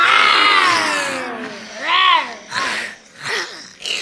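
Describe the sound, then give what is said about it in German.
Voices imitate tigers roaring at a zoo, with a long drawn-out growl followed by several shorter, rising and falling roars, loud. “Schon von Weitem hören wir die Tiger brüllen.”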